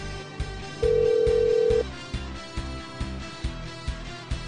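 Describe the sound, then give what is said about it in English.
A telephone line rings once while a call to a Westminster Walmart Supercenter is being transferred, a steady tone lasting about a second, heard over a soft, regular low thumping beat with no one talking. “While we transfer your call.”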